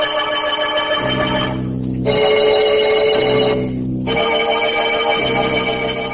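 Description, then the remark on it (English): Loud bells ring continuously on the hour, their rich sustained tones overlapping and shifting between pitches in a steady, repeating pattern, with no voices present. “And so a man lies in a bed in a padded cell and hears the bells ringing, ringing, every hour on the hour, just as he once heard the real bells strike 12 for murder at midnight.”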